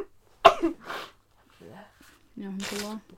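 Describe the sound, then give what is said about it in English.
A sudden, forceful sneeze-like burst from a person, followed by quieter breathy sniffs and short voiced noises, with no clear words. “This is not really a pleasant sound to continue hearing me sniff and sneeze, but like,”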